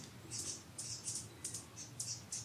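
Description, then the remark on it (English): Birds chirp softly, a steady run of short, high chirps repeating about twice a second over a quiet low hum, with no one speaking. “Let the birds chirp. Let the crickets cheep.”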